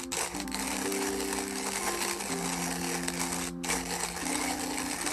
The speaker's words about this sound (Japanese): 今コーヒーの豆をミルで挽いております。その音でございます。ジョリジョリ言っております。